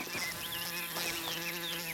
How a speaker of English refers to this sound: The sound of a wasp. It's a large specimen, nearly an inch long, with yellow and black rings on its abdomen and long yellow legs.